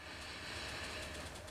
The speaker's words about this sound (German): Machen wir mal kurz die Augen zu, alle. Und wir atmen ganz tief, ganz langsam durch die Nase, ganz tief ein, heben dabei die Schultern so fest hoch, wie wir können.